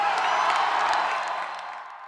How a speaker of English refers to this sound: Thank you very, very much. Wow, what a great reception. What a great crowd. And I bet they can hear this cheering all the way in Washington, D.C.